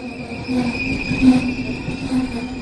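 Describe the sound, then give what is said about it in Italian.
A regional train, the 17:58 from Roma Ostiense to Viterbo Porta Fiorentina, rolls into the station at platform 2, its wheels giving off a sustained metallic squeal over a steady mechanical rumble for the whole stretch, with no voices. “treno regionale delle ore 17:58 proveniente da Roma Ostiense e diretto a Viterbo Porta Fiorentina è in arrivo dal binario 2.”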